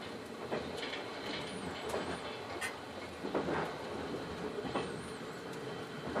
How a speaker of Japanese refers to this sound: 今日も JR 北海道をご利用いただきましてありがとうございます。次は新札幌に停まります。